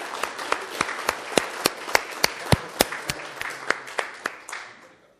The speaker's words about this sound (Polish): Gratuluję. Jeszcze raz proszę o brawa.